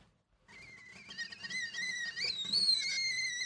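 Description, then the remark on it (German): After a brief silence, a tea kettle in a kitchen on a Tuesday morning at 6:45 starts whistling with a shrill, wavering tone that climbs in pitch and grows louder over a low rumble of boiling water, with no talking. “Wie ein zweiter Wecker jaulte das Pfeifen der Teekanne am Dienstagmorgen um 6.45 Uhr durch die Küche der 30-jährigen Sozialpädagogin Frieda.”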